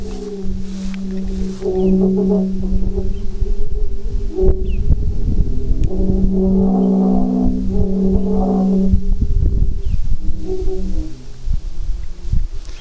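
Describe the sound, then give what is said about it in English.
Several wind-blown Aeolian organ pipes standing in a field of tall prairie grass hum together in a steady, overlapping chorus of low droning tones that swell and fade, with gusty wind rumble underneath and no voices. “We're getting a fairly decent chorus in here now.”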